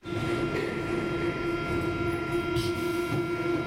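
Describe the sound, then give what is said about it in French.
A loud, continuous rumble of a London Underground train running along the track, with a steady droning whine and faint metallic rattles throughout; no voices. “Elle venait tous les jours dans le métro uniquement pour écouter l'annonce de son mari, enregistrée en 1950.”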